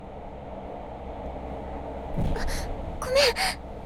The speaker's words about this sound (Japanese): 電車揺れてお兄ちゃんとくっついちゃった。今のすごいカーブだったね。